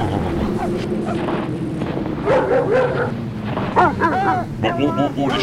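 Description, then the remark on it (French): Several racing dogs bark and yip excitedly, overlapping in quick bursts over a steady rumble of wind or engine noise, with a person's voice mixed in telling them to calm down. “Oh les chiens, on se calme les chiens.”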